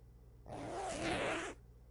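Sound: clothing zipper being unzipped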